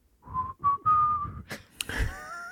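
A person whistles a short tune, a few clear sustained notes rising and falling in a simple melody, ending with some breathy noise and a brief scuffle of sound.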